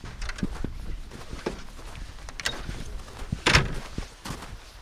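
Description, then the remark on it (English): Slow, soft footsteps crunch one after another inside the Ice Hotel, whose walls are 3 feet thick snow and ice, at minus 30 degrees; hushed and muffled, with a brief louder scuff or knock near the end and no voices. “The only sound is my own footsteps.”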